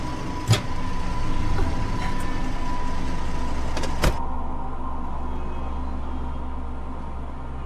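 A taxi interior with a steady low engine rumble while driving and following another car, a couple of sharp clicks or thumps near the start and middle, and faint road hiss throughout; no one speaks.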